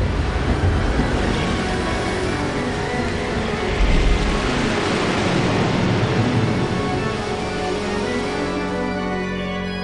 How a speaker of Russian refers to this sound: Однако стихия, разыгравшаяся на море, была гораздо сильнее людей. Яростные волны бились с огромной силой об борта, как будто только и стремились затопить это небольшое суденышко.